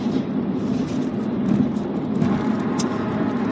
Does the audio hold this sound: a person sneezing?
no